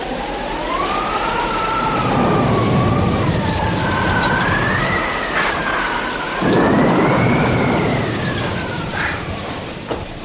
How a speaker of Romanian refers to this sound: Ce vreme! Nu era de ajuns ploaia asta măruntă care ține de 3 zile. Mai trebuia și vânt.